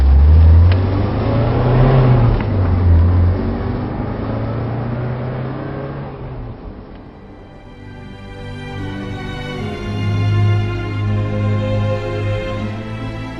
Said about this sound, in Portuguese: O furgão voa pelas ruas de Paris e em poucos minutos vocês chegam na parte de trás do departamento.